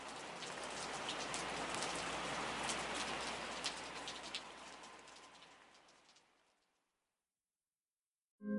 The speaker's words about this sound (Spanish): Acabó de hablar Jacinto Canek y la lluvia siguió cayendo.